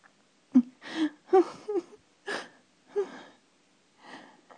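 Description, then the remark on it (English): Heavy, breathy panting after sexual climax: about eight uneven gasping breaths, several with a low voiced moan, rising and falling at an irregular pace with no speech. “I pant, and then my panting turns.”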